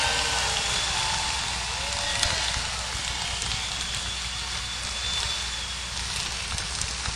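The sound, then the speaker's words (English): Sustained audience applause for the Wolf Trap Horn section at a concert, a dense, steady wash of many hands clapping with crackly texture and no break, holding at an even level for about seven seconds with no one speaking. “And while you're at it, ladies and gentlemen, please, let's share this wonderful enthusiasm and let's hear a nice round of applause for the Wolf Trap Horn section right here, who are really spectacular.”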